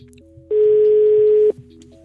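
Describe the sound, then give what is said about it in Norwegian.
A single steady telephone ringback tone sounds for about one second, loud, between stretches of quiet line with no talking, as a call is placed to a phone number that is rung every week. “og vi ringer opp det samme telefonnummeret hver eneste uke.”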